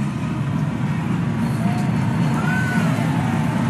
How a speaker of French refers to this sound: Vous entendez les hurrahs de la foule.